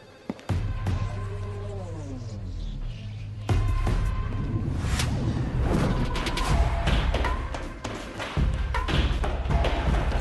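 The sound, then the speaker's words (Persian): Gunfire crackles through a dense, noisy scene: repeated sharp shots and heavy low thuds over a constant rumble, loud, with a louder burst a few seconds in. “درست حد زدیم، تایید شد. صدای تیراندازی بوده.”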